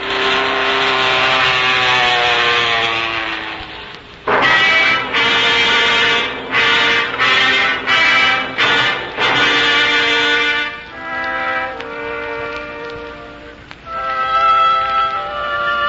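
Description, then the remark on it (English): A loud, droning airplane engine runs steadily, then sputters and cuts in and out in a rapid series of stuttering bursts before roughening and surging again. No one speaks. “Well, it's an airplane. And it seems to be in trouble.”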